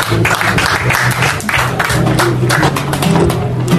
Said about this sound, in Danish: Og nu klapper vi lige igen, og så tager du den lige ud på den der lejse musik.